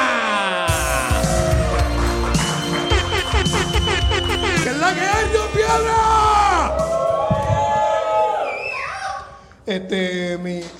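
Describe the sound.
A lively crowd at an open mic cheers loudly as a performer is introduced, with whoops, yells and shouting voices layered over what sounds like clapping, fading briefly near the end before a final burst.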